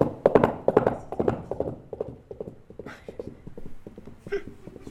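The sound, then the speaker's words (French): Hoofbeat clip-clop imitating a horse, made by tapping hollow objects together, a steady galloping rhythm that starts loud, then gradually softens. “C'est plus facile d'avoir ça dans ma valise qu'un cheval, quoi.”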